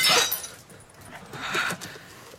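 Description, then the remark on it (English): A thrown cup smashes with a sharp, bright crash right at the start, followed by a scatter of faint clinks and rattles as the pieces settle. “Was that cup meant for the dog or me?”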